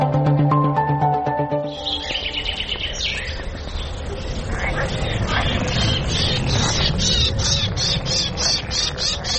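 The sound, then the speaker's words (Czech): Outdoor ambience at Bara Reva in Belgrade, about 6 km from the city centre: birds chirping and tweeting over a steady drone of insects and croaking frogs, with a low rush of wind, following a brief musical tone at the very start. “Kad čujete ovaj cvrkut ptica, žabe, insekte, vetar, da li biste mi poverovali da se nalazim u Beogradu, na samo 6 km od centra grada?”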